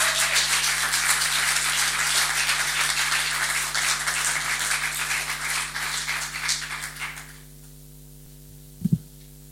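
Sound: audience applause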